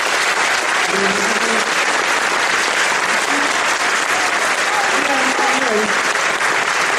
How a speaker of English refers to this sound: Special round of applause for the moms that have been standing to keep their babies calm. So you can listen. Thank you so much.